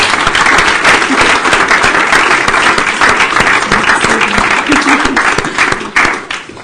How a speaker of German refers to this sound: Einen Applaus für euch.